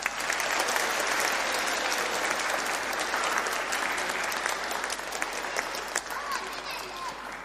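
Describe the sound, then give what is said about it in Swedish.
Steady welcoming applause from a church audience at a baptism fills the church for several seconds, a dense patter of many hands clapping at an even level without pause. “En välkommen applåd”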